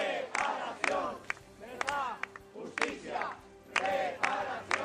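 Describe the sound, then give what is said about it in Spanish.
A large crowd at a memorial rally, held under the slogan '7.291, cuidar de nuestros mayores es cuidar de nuestro futuro', claps together in a steady rhythm in remembrance of the victims, with many voices calling and chanting loudly over the beat, the sound broad. “Bajo el lema 7.291, cuidar de nuestros mayores es cuidar de nuestro futuro, el acto ha concluido con un cerrado aplauso en recuerdo a las víctimas.”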